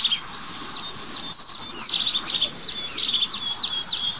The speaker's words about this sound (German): Heißt auch Haubenmeise.